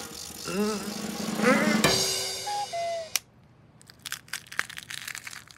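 Walnuts being smashed by a fist: two loud, sharp cracking impacts, then a quieter run of brittle crunching and crackling shell fragments. A short vocal sound comes just before the first blow.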